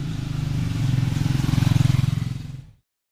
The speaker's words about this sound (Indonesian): Oke, bentar, motor lewat.